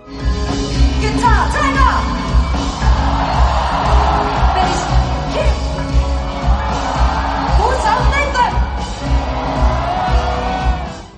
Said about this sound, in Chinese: 在场嘅欢呼声就夹杂咗好多嘘声。